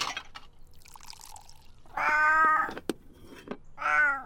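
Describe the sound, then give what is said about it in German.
A small cat meows twice, fairly loud, with a drawn-out harmonic cry followed by a shorter one; soft pouring and clinking sounds of warm milk and cat food being filled into two red plates come before and between the meows. “Nach dem Frühstück setzt sich die kleine Katze vor die Terrassentür.”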